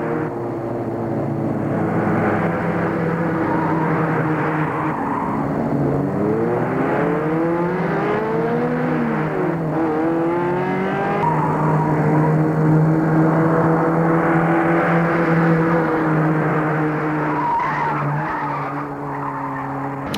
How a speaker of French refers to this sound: Et des fois, ils prennent le périphérique et conduisent les yeux fermes, les yeux bandés.